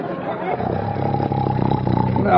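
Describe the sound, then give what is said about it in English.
A voice imitates a snore with a loud, continuous, rasping drone that is rough and low, then swells and climbs into a higher whine at the very end. “I want a snore, not a dive bomber.”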